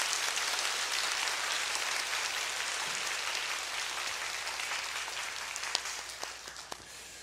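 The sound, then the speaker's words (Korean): Steady applause from a church audience at a special dawn prayer service, adults encouraging the children and youth, with dense, even clapping that holds for several seconds before thinning out into scattered individual claps near the end. No voices are heard. “우리 다음 세대를 위해서 어른들이 보낼 수 있는 우리 가장 뜨거운 박수로 격려하실까요?”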